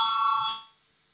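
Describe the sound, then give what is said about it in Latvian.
A loud electric bell in a parliament rings steadily for about half a second to call a vote, a bright sustained metallic tone that then fades away into quiet. “Lūdzu zvanu”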